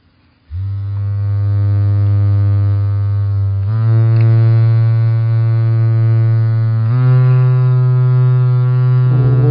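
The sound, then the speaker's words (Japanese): A high-end vibrator, switched on and held against the palm of a hand, buzzes strongly with a loud, steady low hum, stepping up in pitch twice as its intensity changes. No voices are heard. “すごい、聞こえますかこれ、振動やばい、うわすご。”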